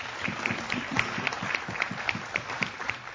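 Audience applause, a steady wash of many hands clapping at moderate volume with some sharper individual claps popping out in a loose rhythm, and no talking over it.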